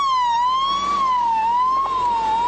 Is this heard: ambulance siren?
yes